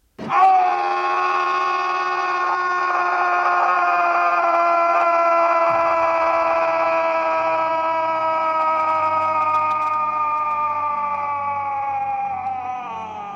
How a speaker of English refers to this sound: Then came Simon's scream.